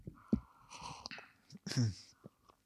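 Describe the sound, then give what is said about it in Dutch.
Quiet sipping of a double espresso from a cup: soft slurps and small mouth noises, with one longer, louder slurp near the end and no talking. “Even een slokje van de koffie. Even een slokje van mijn espressie. Van mijn dubbele espressie.”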